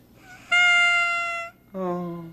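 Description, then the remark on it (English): A silver whistle blown in two loud, sustained blasts: a reedy higher tone for about a second, then after a brief gap a lower, buzzier tone that sags slightly in pitch. “This is a silver whistle.”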